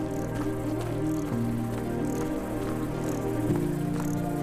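Crickets chirp in the grass between shrubs in steady, repeating pulses, spread all around the listener, over a continuous low droning hum. No one speaks.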